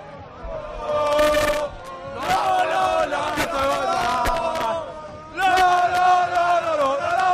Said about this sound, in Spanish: Este es el sonido ahora mismo donde miles y miles y miles de personas en el centro de Madrid, en el centro de la Cibeles, con todo tipo de cánticos. Así suena Madrid.